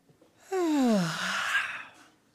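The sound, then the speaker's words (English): A single long, drawn-out yawn from a person, starting with a voiced rising-then-falling tone and trailing off into a breathy exhale, with no talking. “You yawned.”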